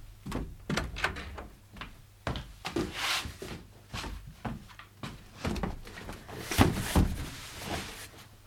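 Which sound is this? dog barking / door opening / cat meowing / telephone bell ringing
door opening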